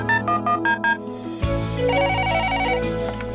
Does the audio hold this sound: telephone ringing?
yes